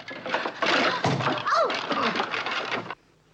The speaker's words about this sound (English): He blows her kisses as he goes to leave, but then opens the storeroom door by mistake and is showered with tennis rackets.